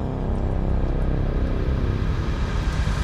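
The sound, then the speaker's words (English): A low, steady droning hum, made by a voice as a host's intro on Radio 1, holds at an even loudness for about three seconds with a deep, rumbling tone and no words. “I was going to give you a drone, like...”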